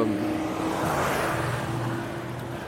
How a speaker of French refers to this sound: Alors j'espère que vous ne l'avez pas entendu, il y a un mec, une bagnole, qui a un veau, une vieille Volvo là, et puis le mec il monte la côte en première. Putain, mais enfin voilà, il pue l'essence, ça pue le gasoil, j'en sais rien, mais.